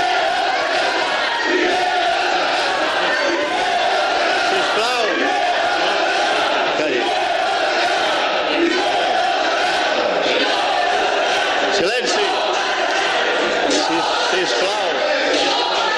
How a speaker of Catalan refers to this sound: En aquell moment, un grup de seguidors del partit de Josep Anglada han començat a insultar i cridar consignes i l'alcalde ha fet desallotjar la sala de plens. Crits de "no passaran" contra crits de "primer els de casa".